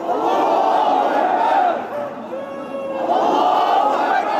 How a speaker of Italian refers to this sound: Sono rimasti a intonare slogan a favore della Sharia per varie ore fino a notte fonda prima di essere dispersi dalla polizia.